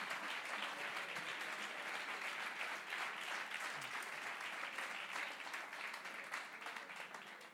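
A crowd applauds steadily for several seconds, a dense patter of many hands clapping at once with no voices, holding an even loudness before easing off slightly at the end.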